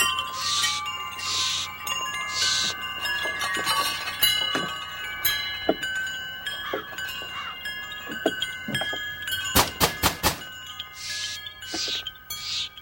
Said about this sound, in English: He approaches a sheet metal awning and passes through a collection of handmade wind chimes.